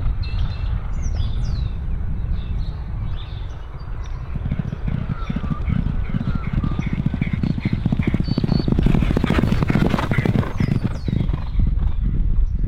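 Rapid, rhythmic hoofbeats of a horse galloping on a track during a training workout, working about 600 metres to the line with a lead horse, growing louder as it passes, with birds chirping faintly in the background.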